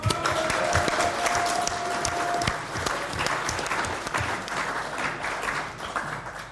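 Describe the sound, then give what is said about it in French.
Sustained applause from an audience in tribute to an absent woman during an association's moral report, filling the whole stretch, dense and steady clapping at an even level with no voices on top. “Donc même si elle n'est pas là, on peut quand même l'applaudir.”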